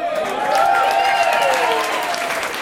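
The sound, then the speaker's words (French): A crowd applauds steadily, a dense wash of clapping with scattered cheers and whistles rising above it, sustained at an even, fairly loud level throughout, welcoming a singer to sing on a major Parisian stage. “…, on l'applaudit.”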